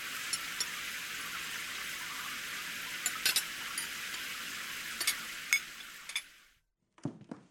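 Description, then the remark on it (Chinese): Water runs steadily from a tap for several seconds with a few light clinks of dishes, then cuts off, followed by a brief clatter of crockery in a sink, as a daughter washes the dishes after a family meal at home. “爸，你在沙发休息一下，看看电视吧，我去洗碗。”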